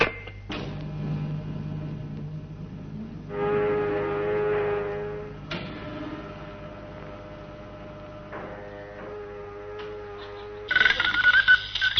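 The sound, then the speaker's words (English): A clock strikes ten o'clock with a handful of sustained, resonant bell-like tones that overlap and ring out over a steady low hum, with a brighter, louder strike near the end. No one speaks. “boom, boom, boom, boom, 10 o'clock. Time I went in the air.”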